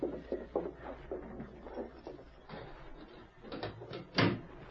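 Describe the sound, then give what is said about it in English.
A heavy jail cell door is worked open long after midnight with a series of clunks and rattles, ending in a louder metallic clank. There is no talking. “I'll open the door to the big shell.”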